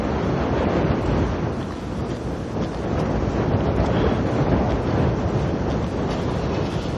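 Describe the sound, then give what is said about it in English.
Strong wind from a passing gust front buffets the microphone with a dense, roaring rumble heavy in the low end, swelling slightly in gusts and never letting up. No one speaks. “Well, and now we're getting some wind. Gust front coming through.”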